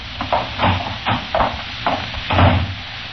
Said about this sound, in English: You'll find Dad in his study. Just knock on his door.